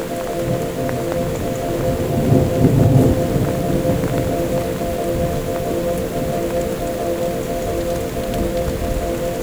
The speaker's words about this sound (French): C'est la naissance d'un léger orage.